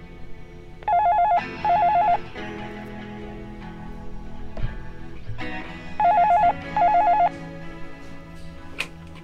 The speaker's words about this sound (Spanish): en un lugar llamado Wisconsin, en los Estados Unidos, suena el teléfono del dormitorio de un alumno.